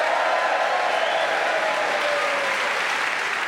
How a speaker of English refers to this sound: Please whoop and cheer for all four of them.